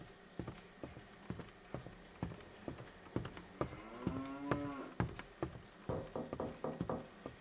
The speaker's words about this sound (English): Sound like we got a cow knocking on the door. Well, answer the dang door.